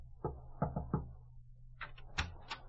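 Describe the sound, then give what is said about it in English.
Four soft, muffled knocks on an office door in a quick uneven rhythm, followed by a few lighter, higher-pitched taps and clicks over a low steady hum. “She stopped at his office door, knocked softly.”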